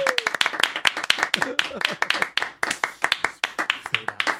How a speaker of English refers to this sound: I can clap longer than you. Are you trying to clap longer than me?